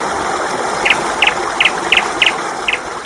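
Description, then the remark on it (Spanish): A small bird gives a steady series of short, high chirps, roughly two or three per second, over a constant rushing, water-like hiss. No one speaks. “Y este pajarito que contesta con la llegada del buen tiempo.”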